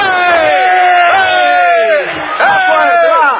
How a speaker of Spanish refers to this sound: Vamos a gritar todos para que se despierte.